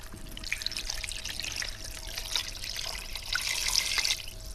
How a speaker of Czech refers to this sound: Zalijeme vodou.